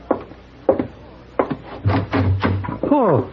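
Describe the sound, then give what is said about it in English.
A wooden door clicks and is pulled open by Mr. Paladin with a few short knocking thumps, for Hey Boy, whose arms are full of baseball things, while muffled voices talk over it. “No, can't open the door, Mr. Paladin. Arm is full.”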